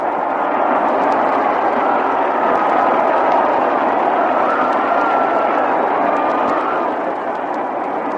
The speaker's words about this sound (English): Well, every once in a while, we back away from this microphone here in our mutual broadcasting booth at Cincinnati to let you hear the crowd noise rather than to try to compete with it and talk over it.